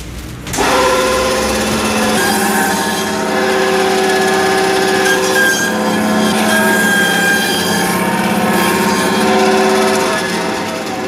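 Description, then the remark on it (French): A power saw cuts through a veal foreshank bone with a loud, steady whine that starts abruptly and holds a sustained, ringing tone for about ten seconds, with no talking. “Alors, j'ai passé à la scie, ça fait pas très, très traditionnel, cette histoire-là, mais c'est pour éviter les éclats d'os.”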